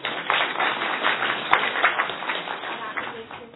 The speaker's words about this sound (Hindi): तो अपने लिए ताली बजाइए।